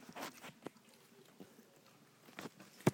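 Several pets eating, with soft, irregular crunching and chewing sounds scattered through quiet surroundings and one sharper click at the end.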